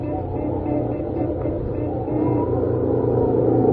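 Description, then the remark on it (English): A steady, loud roar of sandstorm wind fills the scene over the deep rumble of a truck engine running wide open as the truck tries to outrun the storm, swelling slightly toward the end with no break. “The sand is already swirling all around us.”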